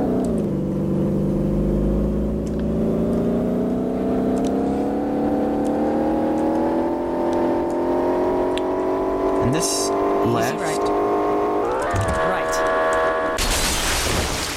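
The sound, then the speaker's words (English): A racing car engine drones steadily and rises gradually in pitch as it accelerates through fast turns during a race, loud, with brief screeches and a sudden burst of noise near the end. “Turn speeds on this car are phenomenally fast. And, I should probably gear down when it's time to turn.”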